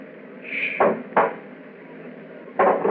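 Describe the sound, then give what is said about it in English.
A door lock being opened: a brief metallic squeak, then a few sharp clunks and clicks spaced out over a couple of seconds, with no voices. “It's at the door. Get ready. It's opening the lock.”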